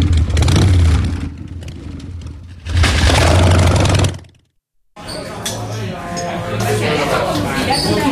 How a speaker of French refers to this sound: Ah oui. La moto a du mal à démarrer là aujourd'hui.